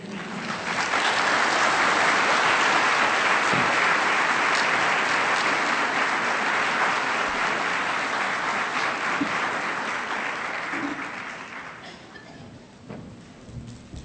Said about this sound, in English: If we can give another warm round of applause for our keynote.